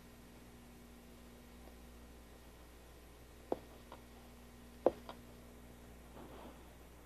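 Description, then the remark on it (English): A few soft, dull taps as the end of a carrot, coated in food coloring, is stamped onto paper to print a design, spaced irregularly, over a steady low background hum with no talking. “Now, if I just put some food coloring on here, and do some printing. Let's see what kind of a design this makes on the paper.”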